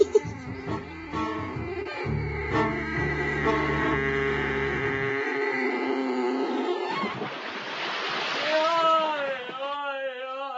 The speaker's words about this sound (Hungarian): esett a patakba. Húzzuk ki gyorsan. Húzzuk.